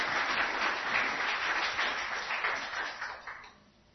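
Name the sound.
audience applause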